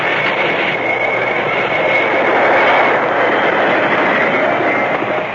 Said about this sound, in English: Stop the train. Stop it quick. All right, if you say so.